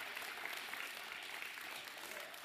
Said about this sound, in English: One, two, three. Big round of applause for our kids and youth. Yeah.